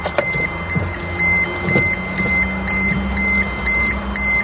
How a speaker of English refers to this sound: Is this the indicator, isn't it? The indicator. It's really annoying, isn't it?